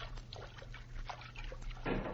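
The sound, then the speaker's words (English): Water splashes and sloshes in a quick, irregular series of bursts as people move through a river and crawl out of the water at the river bank, with a steady low hum underneath and a fuller splash near the end. “Now, crawl out of the water.”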